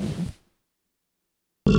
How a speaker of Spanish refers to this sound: Amor, ese eructo.